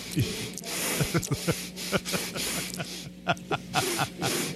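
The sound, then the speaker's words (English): A string of loud nasal sniffs and snorts from a man, about a dozen sharp breathy bursts in an uneven rhythm, over a low steady hum in the background. “here's some tape of him not sniffling, as a matter of fact.”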